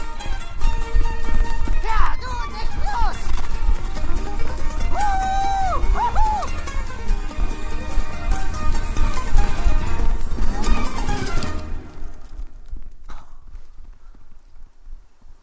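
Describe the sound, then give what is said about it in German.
A racehorse's hooves gallop at the Tanforan racetrack in a loud, rapid, continuous drumming over a busy background, with a brief whinny-like cry midway, before the pounding cuts off and only quiet remains. The horse has just broken the track record. “Ihr Pferd hat gerade den Bahnrekord in Tanforan gebrochen.”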